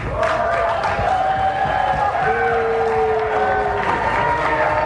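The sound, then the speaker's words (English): A large crowd roars continuously, about half of it booing De Niro, with long, sustained low-pitched boos droning through the din at a steady, loud level for the whole stretch. “About half the crowd's booing, and you even heard when he launched it, a bunch of people went, "Oh, no."”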